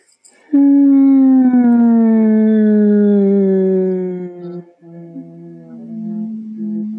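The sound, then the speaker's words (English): A steady, gentle hum in a low voice, held for several seconds with a slowly falling pitch, then a brief break and a softer second hum that trails on. No talking. “How much of myself can I allow to occupy this body through this gentle hum, nourishing gentle hum?”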